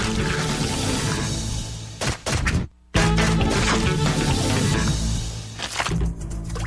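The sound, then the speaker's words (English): Loud scrubbing and sloshing water as ostrich vomit is scrubbed out of the ostriches' water buckets, a dense continuous wash of splashing with clunks, briefly cutting out for a moment before resuming just as strongly. “Once we finish scrubbing the ostrich vomit out of their water buckets, it's time for a little egg hunt.”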